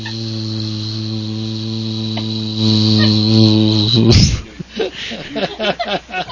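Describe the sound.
A person hums a steady, low, buzzing drone into a microphone while waiting for the phone to ring, for about four seconds, growing slightly louder before breaking off. Someone then starts talking.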